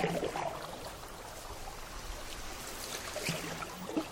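Paddles dip and splash in water at an uneven rhythm as people paddle wooden canoes toward a shore, with trickling and pouring sounds as the boats draw closer, steady, no voices.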